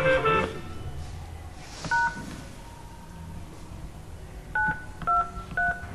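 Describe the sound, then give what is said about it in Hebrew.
Four short telephone keypad tones being dialed to enter a password, one alone and then three in quick succession near the end, each a crisp dual-pitched beep over a quiet line hiss. “נא הקישו את הסיסמה שלך.”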